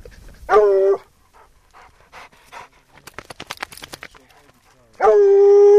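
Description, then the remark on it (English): A state trapper's two hounds let out two loud, drawn-out barks, one near the start and one at the end, with quick, rhythmic panting and snuffling in the quieter stretch between, on the ground in the Black Hills during a search for a mountain lion. “With her are a state trapper and his 2 hounds, a state biologist, and her professor, John Jenks.”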